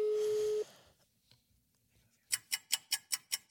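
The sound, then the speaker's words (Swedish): A phone line sound as a call is placed to a friend: a steady mid-pitched tone lasting about half a second, a short quiet gap, then a fast run of seven bright, evenly spaced pulses, with no voices. “Ska vi ringa honom och fråga? Ja, kan vi göra. Ring honom.”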